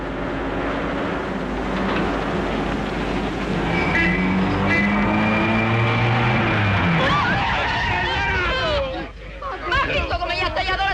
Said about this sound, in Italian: Ma non picchia un po' in testa sto motore? Io metterei la terza, sa.